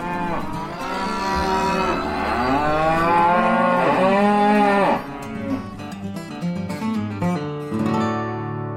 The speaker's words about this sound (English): Not to mention the herd of cows.